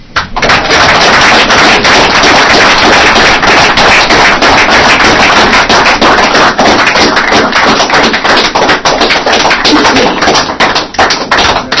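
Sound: audience applause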